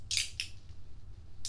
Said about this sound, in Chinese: 笔弄掉，见一下，掉哪儿去了？